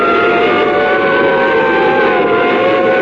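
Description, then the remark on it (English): A loud ambulance siren blares steadily over the rushing roar of a car speeding at better than 70 miles an hour, the ambulance following it; continuous throughout, with no talking. “He followed us with his siren blaring. It was an ambulance.”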